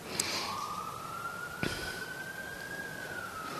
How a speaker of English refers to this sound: And then there's all this inner and outer sirens.